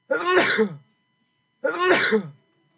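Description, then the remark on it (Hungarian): Two loud, harsh coughs, each lasting well under a second, separated by a brief pause of silence, with no talking around them. “Ebből a köhögés felkeltette az érdeklődését.”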